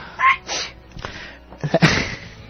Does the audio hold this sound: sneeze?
yes